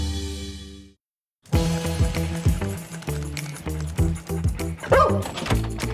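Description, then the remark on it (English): A dog barks in quick, repeated bursts, with some higher yips and whiny notes mixed in, after a short silence near the start. “Cheddar? Cheddar? Shake. Oh, good grip. Pristine coat. That's my doggy.”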